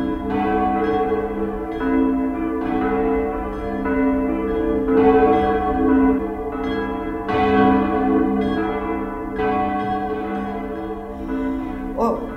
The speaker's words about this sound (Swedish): sitter där då och börjar dricka sitt kaffe så börjar kyrkklockorna ringa dit från den där ugnen. Och det var så vacker klang i de där klockorna och den ringde och det ringde och det var dels tyst ute men dit i knuten höll det på med de där klockorna.